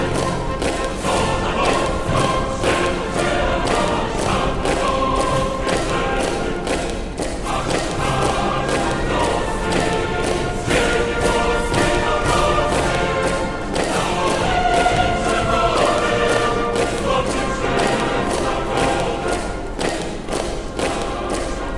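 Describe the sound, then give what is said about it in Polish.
Heavy, steady rhythmic thuds of many troops' boots marching in unison at the Polish border, loud, with a dense crowd-like background filling the whole scene and no talking. “Przy granicy polskiej słychać hymn polski i marsz wojsk.”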